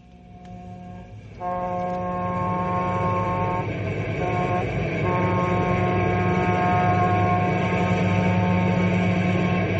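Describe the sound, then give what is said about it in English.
After a brief quiet start, a passenger train rumbles loudly and steadily along the rails, a sustained horn-like tone ringing over the heavy mechanical roar; no one speaks. “Oh, my heart gets pains when I think of that trainload of passengers.”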